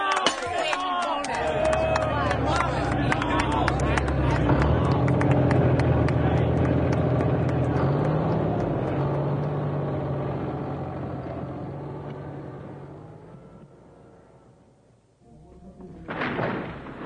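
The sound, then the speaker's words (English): A yellow bulldozer rumbles with a low engine drone while crashing, splintering thuds of a house being knocked down pile up, then the noise fades out before a short final burst of clatter. “It's probably just your house being knocked down.”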